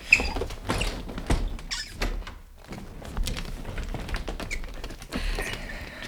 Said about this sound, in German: Wärst du so lieb, meinen Rollstuhl zu schieben? Gar kein Problem.